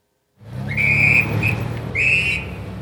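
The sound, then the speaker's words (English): A police whistle shrills in a long blast, a quick short chirp, then another long blast, loud over a steady rumble of street traffic, as police officers direct traffic outside a vaccination site in southern Mexico City. “Police officers direct traffic outside a vaccination site here in the southern part of the city.”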